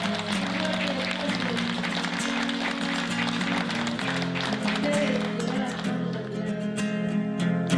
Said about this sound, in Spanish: No, pues el aplauso es para ustedes. Yo quiero que se den un fuerte aplauso, cheranices. Fuerte para ustedes, por favor.